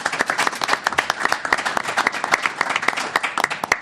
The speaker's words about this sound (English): So a big thank you and a big round of applause for our audiences here and those who are listening to us on the audio and our podcast. So one more hand of a big hand of applause.